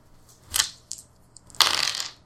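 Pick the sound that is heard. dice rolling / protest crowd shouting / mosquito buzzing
dice rolling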